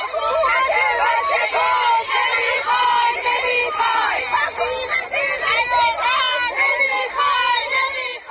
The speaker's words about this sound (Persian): این هم گوشه ای از فریادهای اعتراضی مردم مقابل ساختمان آموزش و پرورش منطقه 2.